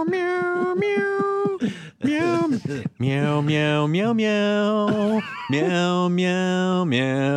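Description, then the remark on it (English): A voice imitates a cat, drawing out a string of long, wavering meows one after another in a sing-song rhythm, loud and close. “Meow, meow, meow. And then the cat, then you've got like a little kitten”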